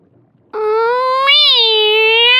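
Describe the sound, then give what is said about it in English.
A cat gives one long, drawn-out meow that starts abruptly after a brief quiet moment, holding steady with a slight rise and fall in pitch, loud with nothing else audible. “Meow, says the cat.”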